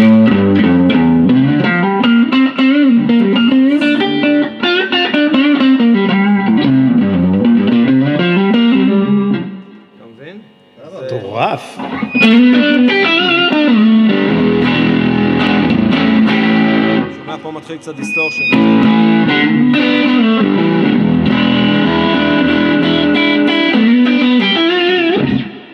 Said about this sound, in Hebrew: אחראים לכך גם הצלילים שמפיקה גיטרה חשמלית. צלילים שונים מאוד מאלו של שאר כלי המיתר.